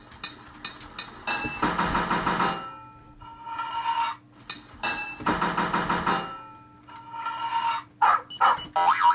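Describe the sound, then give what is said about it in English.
A video game hammer clanks against a pipe, hammering to fit it in place, in a series of sharp metallic hits, some ringing out in longer bright bursts, with a low steady hum underneath and no talking. “In your toolbox, 14 total pipes to fit this level, 6 hits of your hammer to fit a pipe.”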